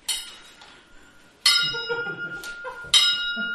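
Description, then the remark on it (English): An old, disused bell hanging in a room of a house rings out three times at an even, unhurried pace, each loud, bright strike leaving a shimmering metallic tone that fades before the next. “Soon, it rang out loudly, and so did every bell in the house.”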